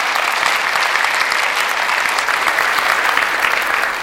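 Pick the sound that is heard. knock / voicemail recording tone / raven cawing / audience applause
audience applause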